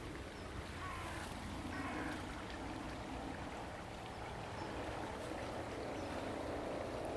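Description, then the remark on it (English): A helicopter drones steadily overhead with a low rumbling throb, blending with the rush of flowing river water; the noise stays constant and fairly loud for the whole stretch, with no talking. “And it's been ruined by a helicopter.”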